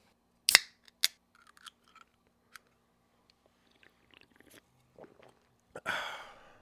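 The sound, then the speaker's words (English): People sipping drinks in near silence: a couple of sharp clicks, soft scattered slurping and swallowing sounds, then a breathy, satisfied exhale at the end. “Let's take a sip break.”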